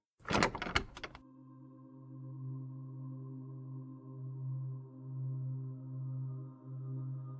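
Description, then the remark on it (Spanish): The first door along a hallway slides open as someone passes it, with a short, loud rattling clatter, then gives way to a steady low mechanical hum that swells and fades gently. No voices are heard. “Al pasar por la primera puerta, esta se abre.”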